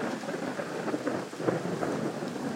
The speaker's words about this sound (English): We have got ourselves a thunderstorm, a French thunderstorm I hasten to add.